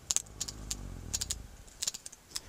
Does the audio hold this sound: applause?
no